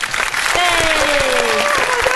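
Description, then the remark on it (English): An applause sound effect played in a studio: a loud, steady burst of applause from a crowd, dense clapping running throughout the short clip, with a brief whooping cheer rising over it. “I've got applause. Hang on.”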